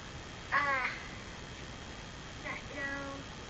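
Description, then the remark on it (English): A voice imitates a bird call, giving two short chirpy, squawking bursts about two seconds apart against a quiet background, with no ordinary speech alongside. “It was the tweet, tweet, tweet. A bird.”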